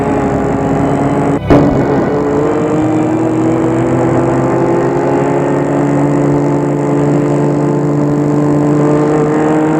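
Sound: car engine driving off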